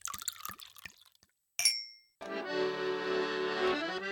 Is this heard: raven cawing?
no